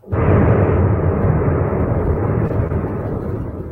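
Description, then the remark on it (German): A sudden, loud demolition blast gives way to a sustained, deep roaring rumble as two cooling towers collapse, barely fading over several seconds, with no talking. “Da war gerade eine Explosion. Keine Ahnung, was das jetzt war. Ah, jetzt fallen sie zusammen.”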